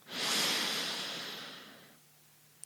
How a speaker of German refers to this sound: Wechselseitige Nasenatmung, Pranayama. Denn zum Yoga gehört so viel mehr als nur die Körperübungen. Lass uns einatmen, ganz tief.